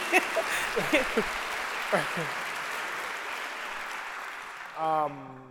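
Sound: audience clapping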